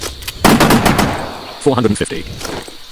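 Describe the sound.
A short, rapid burst of machine gun fire rattles off as a string of sharp, loud cracks, followed by a brief stretch of someone speaking.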